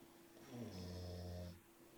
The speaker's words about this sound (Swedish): Om ni undrar varför det är någon som snarkar så är det min hund som låter.